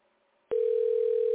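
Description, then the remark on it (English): A phone line tone sounds as a call rings out unanswered: after a brief quiet hiss, a steady, single-pitched electronic tone starts abruptly and holds, fairly loud, with no voices. “Oh, there's no answer.”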